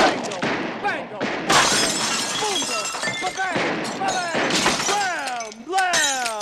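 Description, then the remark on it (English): Gunfire from a film scene erupts in loud bursts with glass shattering and crashing throughout, while a man yells "bang, bang" in rising and falling shouts over the chaos as he shoots. “Asked to make himself a little drink, and Bill Murray opens fire.”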